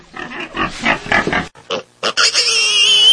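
A pig grunts and oinks in a quick run of rough, snorting bursts, then lets out a long, loud, high-pitched squeal, with no talking.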